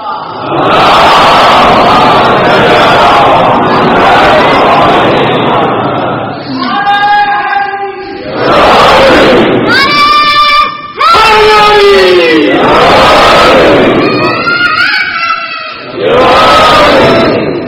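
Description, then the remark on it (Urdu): A large crowd shouts slogans in loud, repeated bursts, many voices rising together in strained, pitched cries over a constant roar of voices. “اتنے نعرے لگا دیے آپ نے ماشاء اللہ”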